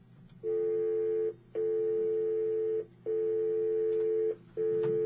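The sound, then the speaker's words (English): A telephone dial tone, a steady loud mid-pitched hum that breaks off briefly three times at irregular points before resuming, with no voices over it. “I'm sure you're playing a dial tone for a reason, Kyle.”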